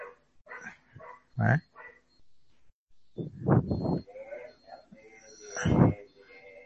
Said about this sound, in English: Now probably you can hear the barking sound of a dog. Can you hear it? Now? Yes.